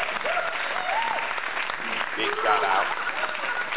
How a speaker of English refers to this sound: That, I got to give you an applause for that